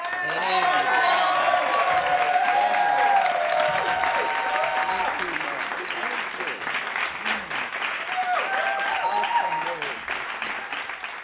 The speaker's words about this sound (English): So we are going to welcome her with a hand clap praise.